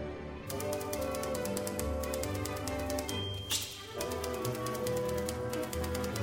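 Crisp typewriter clacks tap out a steady, rapid rhythm over a sustained musical accompaniment, forming a bright, busy percussive pattern with a brief swell partway through and no voices.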